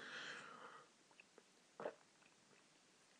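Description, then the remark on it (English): A soft slurp of hot tea being sipped, followed by a few small mouth clicks and a single gulping swallow, with no talking. “Quick sip of tea.”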